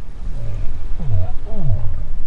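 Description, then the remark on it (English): Muffled, close-up whale quack calls, recorded during the Antarctic summer by a microphone in an instrument package attached to a whale with suction cups: two low, downward-sweeping quack-like pulses, exactly 3.1 seconds apart, over a constant rumbling, watery background noise, each call lasting a fraction of a second. “Briefly, in one of these recordings, was a muffled up-close version of the quack.”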